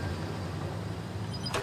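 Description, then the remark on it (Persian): A car engine rumbles low and steady as the vehicle rolls slowly into the parking garage of a home, ending with a brief sharp clunk, with no voices present. “حامد ماشین رو میبره پارکینگ خونش.”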